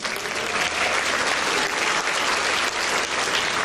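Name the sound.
audience applause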